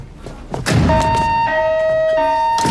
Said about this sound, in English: He closes the door and turns back.